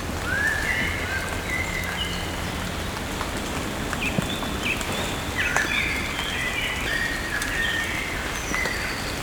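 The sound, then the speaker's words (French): Steady light rain patters under trees across the whole recording while birds sing clear, scattered whistling phrases through it, some bright, others softer. No one speaks. “Sous les arbres et le chant des oiseaux.”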